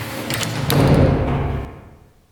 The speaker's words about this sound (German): Der Verantwortliche öffnete das Tor in das Gruselkabinett. Und als alle drei hineinschritten, schlug die Tür mit einem lauten Knall zu.